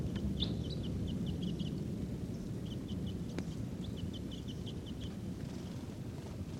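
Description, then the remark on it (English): Wild birds call in bursts of quick, high chirps, repeating in short clusters with brief pauses, over a steady low rumble of wind. The birds are foraging in a tree in the middle of a corral. “And they're not calling as much. There they go again. Wild birds.”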